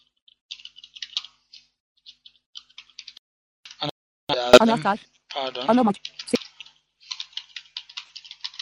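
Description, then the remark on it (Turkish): Crisp computer keyboard clicks tap out in quick irregular bursts as a host address and key are typed in, pausing briefly while a short stretch of voice speaks in the middle, then the rapid typing resumes. “Ana makine adresi, anahtar, yazı, ana makine şimdi yazılan karakter.”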